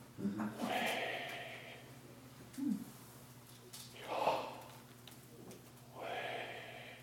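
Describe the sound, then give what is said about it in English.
Slow, deliberate breaths drawn in and pushed out, three airy, hissing passes spaced a couple of seconds apart over a faint steady hum, with no talking. “It's breathing.”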